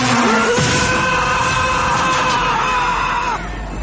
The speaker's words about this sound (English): Oh, and listen to Emilio Estevez's great action movie scream.